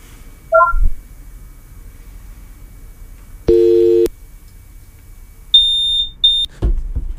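A house fire alarm gives two shrill, piercing high-pitched beeps in quick succession, loud, after some other short electronic tones and a harsh buzzing burst. No one speaks.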